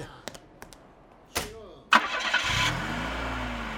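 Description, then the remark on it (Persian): A few clicks and a short whir lead into the engine of a car for sale cranking and catching as it is started for a prospective buyer, then settling into a steady, low idle. “یا استارت بزن بینه”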